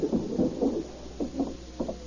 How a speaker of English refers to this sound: A few minutes later, Hamilton Meade heard a rap on the door.